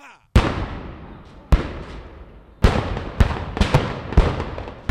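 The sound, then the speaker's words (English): Rebel cannons open fire on Fort Sumter, South Carolina, at dawn on April 12, 1861: a rapid volley of about seven or eight loud blasts, each followed by a rumbling, echoing decay, with the shots coming closer together toward the end. “The American Civil War began in the dawn hours of April 12, 1861, when rebel cannons opened fire on Fort Sumter, South Carolina.”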